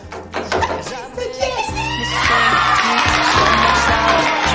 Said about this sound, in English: Aidan and Darcy turn and look at everyone inside, cheering and clapping.